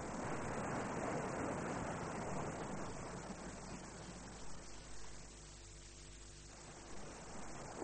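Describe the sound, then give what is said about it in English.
A steady, soft wash of waves lapping at the shore, a continuous hiss with gentle swells rising and falling. No voices are heard. “There's not a sound to be heard, barring the shame of the waves as they lick the shore below.”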